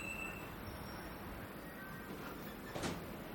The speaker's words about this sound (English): By the way, I am at the subway.